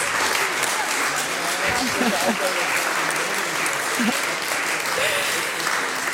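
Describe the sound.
Steady audience applause fills the whole stretch, a dense, even wash of clapping with some voices mixed in underneath, holding a constant loud level throughout.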